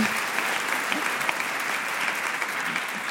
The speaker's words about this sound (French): Et ça, ça s'applaudit.